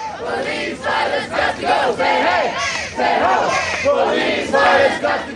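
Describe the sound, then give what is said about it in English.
A large crowd of protesters at a Saturday protest against globalization, racism and the death penalty chants down the police, shouting in loud, rhythmic bursts, many voices rising and falling together in repeated waves with no pause. “Saturday's protest chanted down the police but passed peacefully.”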